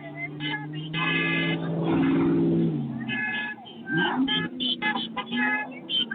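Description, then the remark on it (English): A caravan of cars arriving from St. Pete rolls in, in groups of about 10 or 15 cars at a time, with engines rumbling and horns honking repeatedly in short bursts over a busy, crowded background and some indistinct voices. “The caravan's coming in groups of like 10 or 15 cars at a time.”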